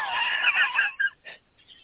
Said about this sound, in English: But, yeah, the toads are louder than hell tonight. I should have mentioned something. I can hear him a little bit in the background.